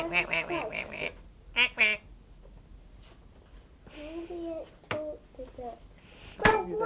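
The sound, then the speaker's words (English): A child's voice makes a series of nasal, quacking duck imitations in short bursts, some clustered rapidly and others spaced apart, moderately loud. “I hope you can talk duck language.”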